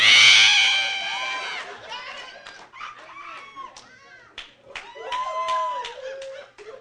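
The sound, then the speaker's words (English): A voice mimics the scream of a really big bird in the sky, told in a story about chickens, with a loud, shrill, harmonic screech at the start, then trails into a string of wavering, squawky vocal cries and clicks. “But one day, up in the sky, there come this really big bird. And they look at it, and they just, you hear the scream.”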